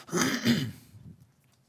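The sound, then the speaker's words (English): A muffled cough into an elbow, two quick rough bursts blending into one another, then a soft low rumble trailing off into quiet. No one speaks. “Cough into the elbow.”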